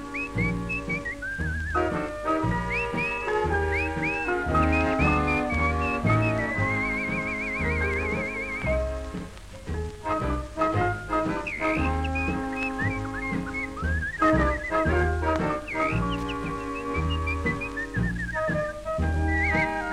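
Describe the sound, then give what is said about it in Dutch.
Bright whistling imitates a canary's song, with warbling trills and quick chirpy runs riding over a lively instrumental accompaniment that plays steadily throughout at moderate volume. “Sinds ik jou gekocht heb, kom ik geen deur meer uit, omdat ik gaarne luister naar het liedje dat je fluit.”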